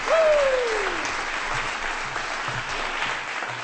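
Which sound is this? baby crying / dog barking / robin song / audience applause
audience applause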